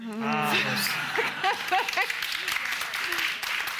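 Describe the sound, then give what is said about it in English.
An audience at St Andrews bursts into applause, a dense, steady wash of clapping lasting several seconds, with voices calling out and cheering over the top. “That tells me a lot about St. Yeah. Andrews that you all applauded.”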